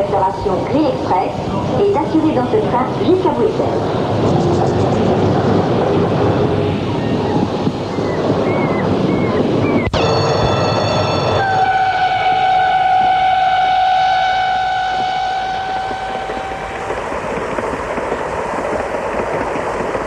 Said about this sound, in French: Le train est enfin parti. Le voyage est long, 5 heures, avec de nombreux arrêts.